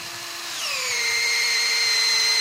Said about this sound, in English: And if the drilling and tapping go according to plan, you put in a tap and hang up a bucket